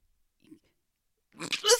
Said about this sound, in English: Listen to a little panic breathing.